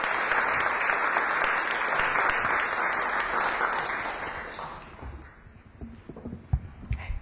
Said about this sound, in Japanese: 大きな拍手を持ってお送りしましょう。